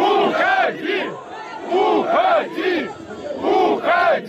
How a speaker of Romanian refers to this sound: În timp ce Lukashenko a încercat să răspundă întrebărilor, muncitorii i-au strigat: pleacă!